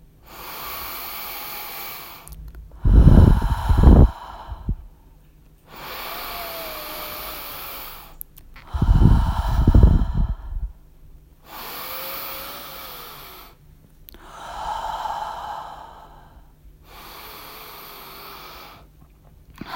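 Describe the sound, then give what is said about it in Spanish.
Slow, deep breaths in a cycle of eight deep breaths through the nose, or through the nose and mouth, alternating long airy inhales and exhales in a steady rhythm, with a couple of heavier, rougher breaths standing out. No talking. “Vamos a hacer un ciclo de 8 respiraciones profundas por la nariz o por la nariz y por la boca.”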